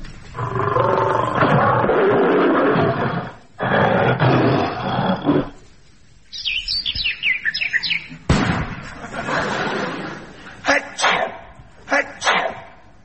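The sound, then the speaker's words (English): A lion roars in two long, loud, rasping bursts, then bright bird-like chirps and tweets follow, mixed with a few short sharp bursts toward the end. “This is a lion.”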